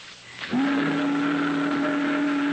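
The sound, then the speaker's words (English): After a short murmur of background noise, a boat whistle blasts in and holds one loud, steady low tone with rich buzzing overtones, sustained without a break to the end. “That's a boat whistle.”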